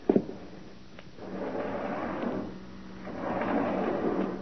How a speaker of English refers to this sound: get the door open, will you?